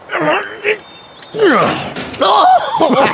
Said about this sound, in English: As they passed through the shadow of the gallows, someone was up on the deck oiling the hinges to one of the three trap doors. He pulled the lever and the door swung open.